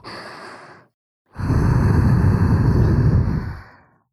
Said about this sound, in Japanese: 濡れたお耳に吐息。